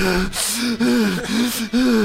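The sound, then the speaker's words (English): A person loudly imitates heavy, labored panting while running, four voiced gasping breaths in a quick steady rhythm, like someone out of breath. “Because you can't hear really your breathing that loud.”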